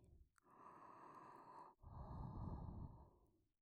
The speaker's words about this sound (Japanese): お耳、くすぐったいですよね。熱い吐息がかかるのがくすぐったくて気持ちいい。